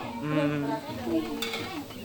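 Sambal goreng ati being stirred in a cooking pan, with scraping, light clinks of a utensil against metal and a soft sizzle, while voices murmur.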